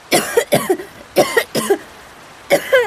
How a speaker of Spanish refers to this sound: Lola está en la arena, blanca como un papel, y tiene mucha tos.